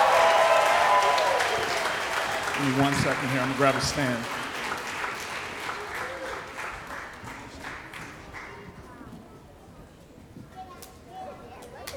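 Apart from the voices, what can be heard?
audience applause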